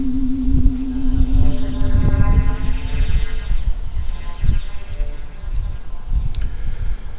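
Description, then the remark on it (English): Loud, rumbling wind buffets the microphone in uneven gusts, with a low steady hum underneath for the first few seconds and no voices. “Okay, if you can hear me over the wind noise, the current time is 19:30 UTC”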